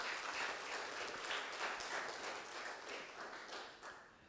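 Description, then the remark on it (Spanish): A church audience applauds the Lord in thanksgiving, many hands clapping in a dense, continuous crackle that holds at an even level for several seconds, with no voices standing out above it. “Un fuerte aplauso al Señor en acción de gracias.”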